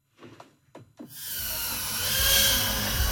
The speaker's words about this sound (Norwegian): Små droner surrer i lufta som hissige bier. Vi inne i klubbhuset til VR Idrettsforening i Tønsberg. Det mørkt, og det en bane med neonlys som disse små dronene skal gjennom.